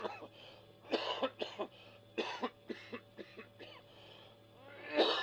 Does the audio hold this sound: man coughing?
yes